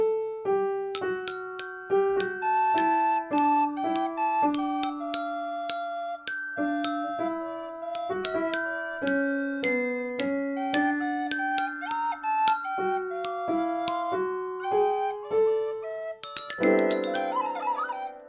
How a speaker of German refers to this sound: Du die Flöte, ich spiele Klavier und du, Fini, nimmst dein Glockenspiel.